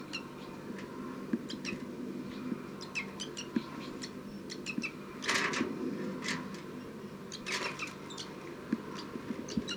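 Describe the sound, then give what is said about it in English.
A young bird, Bird 302, gives rapid, repeated high-pitched begging calls from 5-9, short sharp chirps in irregular bursts over a steady low hum, with two louder, harsher flurries partway through. “This is Bird 302 begging from 5-9.”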